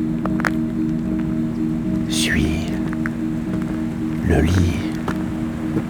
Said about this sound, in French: Ruisseau.